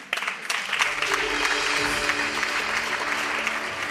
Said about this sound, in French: On peut les applaudir bien fort. Bravo, les amis.